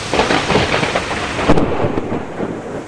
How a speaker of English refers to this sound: After weeks of too little rain, this might have been a welcome sound.